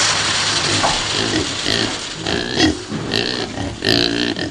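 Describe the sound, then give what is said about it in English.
Several pigs, part of about 100 kept by soybean trader Li Xipin next door to his small workshop and fed rejected soybeans, grunting and oinking in a busy overlapping chorus of snorts and squeals over a steady noisy background, with a few louder squeals near the end. “The bad soybeans are fed to about 100 pigs, which soybean trader Li Xipin keeps next door to his little workshop.”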